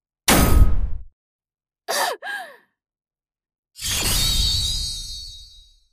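A hard blow lands on a glass pane that holds without breaking, then a short strained grunt, then a second heavier strike that leaves a bright, ringing resonance fading out.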